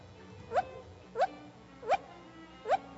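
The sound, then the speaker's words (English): A voice imitates a dog barking on request: four short, upward-sliding yelps, evenly spaced about two-thirds of a second apart, moderately loud over a quiet background, with no other talking. “Can you bark? Bark.”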